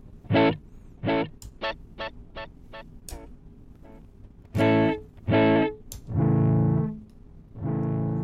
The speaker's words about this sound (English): And when we change it, you'll hear the echoes kind of react to the change in the recording medium.